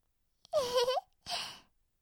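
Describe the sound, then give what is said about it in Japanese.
A loud, drawn-out burp from a little girl who has eaten lots of sweets, with a rough, throaty tone lasting about half a second, followed after a short pause by a second, breathier belch that trails off. “小さな女の子だって、おじさんみたいな大きいゲップ出せるんだよ。”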